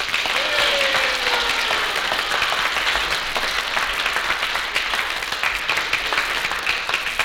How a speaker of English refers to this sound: I think there's a little lady here who deserves a lot of credit for credit. I think she deserves a little round of applause here.